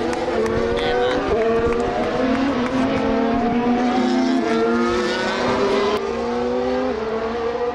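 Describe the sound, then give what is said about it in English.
A pack of Formula 1 cars, including Max Verstappen's and Charles Leclerc's, accelerating hard from the start of the sprint race in Austin, USA, after the five red lights, many high-pitched engines screaming upward through overlapping gear sweeps, loud and continuous throughout. “Here come the five red lights in the USA. And the sprint race is underway in Austin.”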